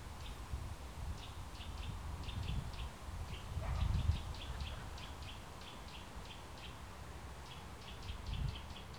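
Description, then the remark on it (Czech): Small birds chirp in quick, repeated bursts throughout over a steady low whoosh of wind moving through trees, with a few louder gusts. No one speaks. “Je fajn se aspoň takhle v hlavě vrátit domů, kde jenom cvrojko ptáčku a šustění stromů bylo slyšet.”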